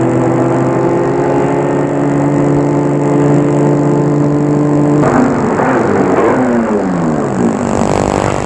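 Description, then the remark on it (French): A car's engine hums steadily and loudly as it drives along roads in poor condition on a long journey to Lyon, then partway through the tone wavers and shifts as the vehicle changes speed, with no one talking. “Un long voyage, pénible à cause des routes en mauvais état, il arrive à Lyon et va se loger au Hôtel Royal, place Bellecour.”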